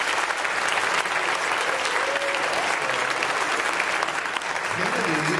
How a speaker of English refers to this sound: Let's give them another round of applause for their accomplishments.